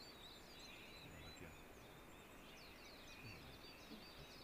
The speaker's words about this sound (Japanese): これメジロって、まああの街中にも結構いる鳥ですけど、目の周りが白い毛なんですけど、はい。これは割と開けたところが好きなんで、向こうみたいにもう木だらけっていうところだとあんまりない、いないですね。